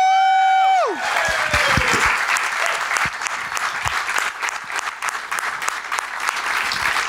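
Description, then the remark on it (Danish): A brief descending musical tone fades out, and an audience breaks into loud, sustained applause for guest Ane Høgsberg, with dense clapping that continues steadily to the end. “Nå, mine damer og herrer, vi er ikke I allerede så godt i gang, men keep it going for Ane Høgsberg!”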